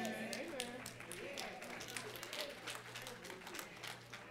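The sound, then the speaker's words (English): An audience claps in a steady, dense patter of many hands, with a low murmur of voices and a sustained hum running beneath the applause. “That's the clap for folks who think that God is good because you were good.”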